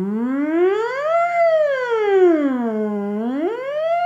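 A siren wails steadily on its own, its tone sliding slowly up and down in long sweeps, loud and continuous throughout with no voices.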